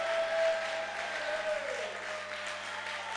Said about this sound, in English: Oh, some people are not clapping. Are you?